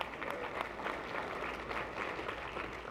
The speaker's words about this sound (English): during our worship services, we had 16 people make decisions for Jesus. God is doing something. The whole reason that we go up, no, it's good, it's clap, it's something to celebrate.